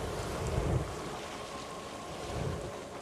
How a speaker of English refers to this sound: A wave crashes over cascading lava.